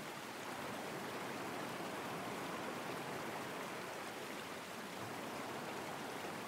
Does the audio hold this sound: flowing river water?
yes